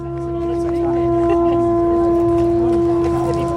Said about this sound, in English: The sound of one of the leaders blowing into a conch shell, and that means we're off. This section of the pilgrimage is from Yalding to Maidstone.